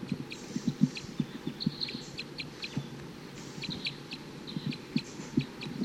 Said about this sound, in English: Wild bird, wild male. Responding to 258. So recording, that was a wild bird chittering on his way up to a nearby eucalyptus.